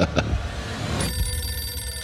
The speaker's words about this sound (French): D'abord, le téléphone qui est là va sonner.